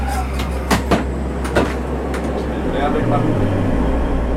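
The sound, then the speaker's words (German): A loud, steady whooshing ventilation fan runs inside a fuel cell bus as its systems start up, with a low droning hum underneath, a few sharp clicks early on, and a shift in the hum's pitch near the end. “Okay, das ist erstaunlich laut. Ja, das war zum Glück nur die Lüftung, die hat er dann schnell abgestellt.”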